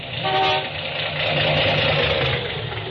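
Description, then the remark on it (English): A misfiring car engine idles with a steady, rough rumble and a dense mechanical hiss, running continuously and fairly loud throughout with no voices. “Well, it's misfiring some.”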